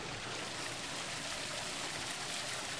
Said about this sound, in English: A lot of this water spilling onto the ground has traveled a long way to get here. The Central Arizona Project pumps water from the Colorado River, 230 miles away.